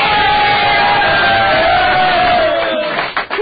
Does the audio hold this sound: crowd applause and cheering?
yes